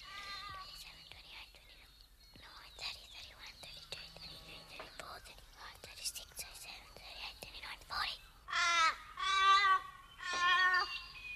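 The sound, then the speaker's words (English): Three loud, harsh crow caws arrive in quick succession near the end, following several seconds of soft, breathy rustling and faint whispering. “They're ominous, the crows.”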